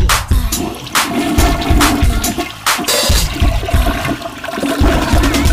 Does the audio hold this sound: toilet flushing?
yes